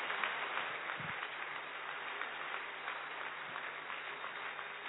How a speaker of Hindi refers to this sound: सब तालियां बजाएंगे, तालियों से बधाई देंगे दादी को।